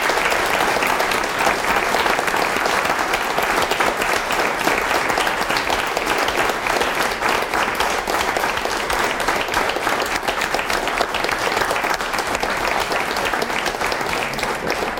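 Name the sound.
big round of applause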